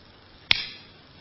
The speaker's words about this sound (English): I've told this story before. This time I was very mindful before I slapped my face. Because sometimes I slapped it too hard. Yeah, I get into the story as well and bruise myself.